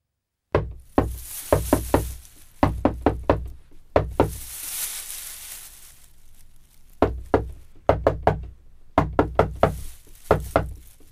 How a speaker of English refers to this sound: Look, are you up there or not? What? Oh, yes, we're here. Then why didn't you answer the secret knock? We didn't know it was a secret knock.